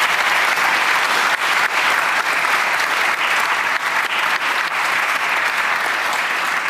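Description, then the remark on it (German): Sustained applause from a sizable audience in an orangery at the Poetinnenfest in Erlangen, for author Thomas von Steinecker and his novel Schwestern: a dense steady patter of many hands clapping at an even loudness throughout, with no voices standing out. “An dieser Stelle aber einen Applaus für Thomas von Steinecker und seinen Roman Schwestern.”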